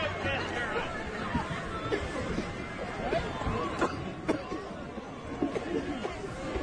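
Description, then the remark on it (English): A crowd at the Capitol in Washington, D.C. murmurs and chatters steadily, with a few sharp coughs breaking through the babble here and there. “Lots of coughing, dude.”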